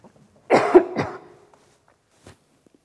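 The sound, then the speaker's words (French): A person coughs twice in quick succession to clear a frog in the throat, rough and fairly loud bursts that rasp into a brief throat clearing, followed by near silence and a faint click. “J'ai un chat dans la gorge.”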